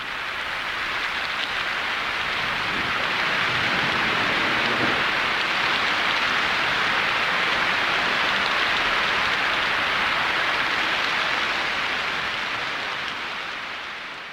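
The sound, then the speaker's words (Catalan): Steady rain falls continuously, a dense even hiss of countless drops, holding a constant loudness throughout with no voices or other sounds. “Si descarreguen aigua líquida, és la pluja.”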